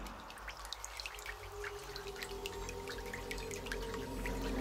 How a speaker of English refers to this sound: He listened, at first hearing only the rain.